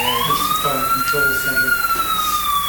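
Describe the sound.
A building alarm bell rings loudly and continuously as one high, steady tone that slowly rises and falls in pitch. Voices talk underneath it.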